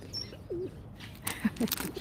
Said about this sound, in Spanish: O sea, habrá 50 gorriones fácil ahora mismo aquí, ¿no? Y más, probablemente, sí. Y está sonando un agateador, también.